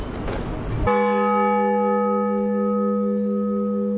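A large church bell, rung by a bell ringer using ropes, is struck once, loud, sounding the blagovest, the main peal calling parishioners to service; its deep resonant tone and shimmering overtones ring out steadily after a brief burst of noise.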